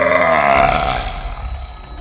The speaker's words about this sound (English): The dragon turned its neck and shielded its eyes with its wing, letting out an awful-sounding roar that shook the mountain.